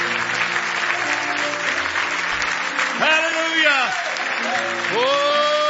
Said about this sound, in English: We're soldiers tonight. Give Jesus another big hand clap of praise.